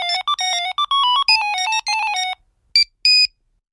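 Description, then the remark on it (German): A bright, electronic smartphone ringtone plays a quick melodic run of chiming notes, then two short separate beeps, loud with no voices. “Das nervt, oder? Und wie lange haben Sie sich heute mit Ihrem Smartphone beschäftigt?”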